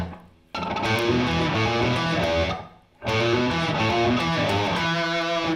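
A loud, heavily distorted (saturated) electric guitar plays a riff on the A string: two sustained, gritty chords with a brief gap between them, the strings and low E muted so the notes cut off cleanly without ringing. No delay, treble pickup.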